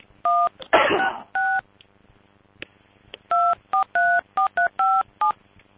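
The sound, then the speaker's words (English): Nine touch-tone keypad beeps ring out clearly as a phone dials Vonage, two early and widely spaced, then a quick irregular burst of seven. A short clattery handling noise interrupts near the start, with no talking. “Yeah, let's give Vonage a call here.”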